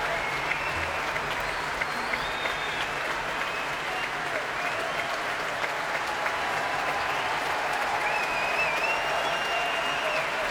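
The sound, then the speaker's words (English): Sustained applause from a large concert audience as conductor Keith Lockhart comes back onto the stage with the BBC Concert Orchestra, a dense, steady wash of clapping that continues without a break, with faint crowd murmurs beneath it. “Keith Lockhart coming back onto the stage now to take more applause.”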